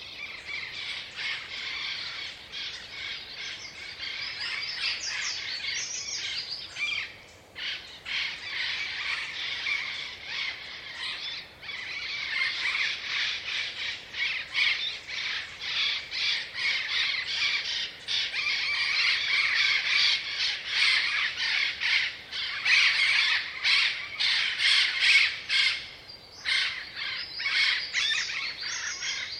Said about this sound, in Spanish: Los loros ya han empezado la rutina de su día y empiezan a salir de sus nidos. Vuelan de a parejas con la cautela necesaria para huir del águila que los acecha. Y yo me siento inundada por los cantos de estas maravillosas aves.